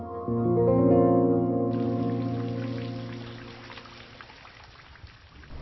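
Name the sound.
rain falling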